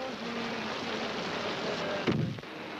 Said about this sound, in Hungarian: Tehát itt kell maradni a kocsiban, amíg eláll az eső.